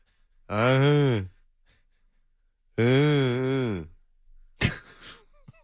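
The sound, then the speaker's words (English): Someone imitates snoring: two long, drawn-out, groaning inhales with a gap between them, followed by a short breathy snort. No speech. “You're snoring. Stop it.”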